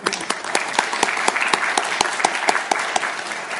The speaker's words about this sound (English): And so I think, yes, if you would, a round of applause for him.